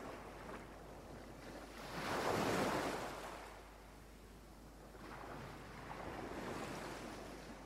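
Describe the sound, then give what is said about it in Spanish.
Sea waves breaking on the shore: a steady soft hiss of surf with two gentle swells as waves wash in and recede, and no voices. “Sientes el ruido del mar, las olas rompiendo cerca tuyo.”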